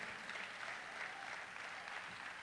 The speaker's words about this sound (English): Come on, clap your hands with Jesus.